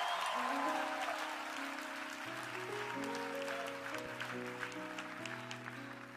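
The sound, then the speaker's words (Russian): An audience on its feet claps steadily in praise to the Lord throughout, a dense crackle of many hands layered over sustained keyboard chords that step between notes, with a faint murmur of voices underneath. “Хлопайте, хлопайте, хлопайте, хлопайте.”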